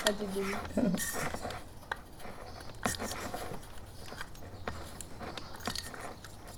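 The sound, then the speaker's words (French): Clicks, taps and scrapes of small metal parts as a small washer is fitted to plug a hole in a coffee maker, irregular and fiddly, with faint voices murmuring in the background. “Voilà, là ça marche, tu vois, parce que avec la petite rondelle ici, j'ai réussi à boucher le trou de la cafetière.”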